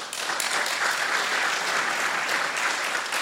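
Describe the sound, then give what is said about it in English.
An audience claps steadily, a dense, even wash of many hands that holds at a constant loudness for a few seconds without any voices rising above it, answering by applause whether they were alive in 1972. “By applause, how many of you were alive in 1972?”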